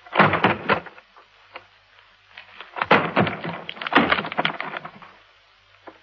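A door being broken down: bursts of heavy thuds and cracking, splintering wood in three loud clusters separated by brief pauses, with no voices.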